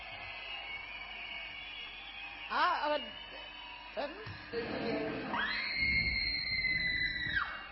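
A couple of short vocal yelps come first, then a person lets out a long, high-pitched angry scream that holds steady for about two seconds, loud, before cutting off.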